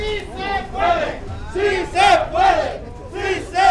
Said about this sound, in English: Two dozen bus drivers and policemen chant, "We can do it," as they form a human chain. They're loading a truck with heavy packs of water destined for a ship to Haiti.